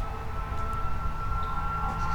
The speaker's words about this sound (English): Far off in the distance, I can hear sirens of emergency vehicles passing on West Maple Road. That, most assuredly, is a fire truck.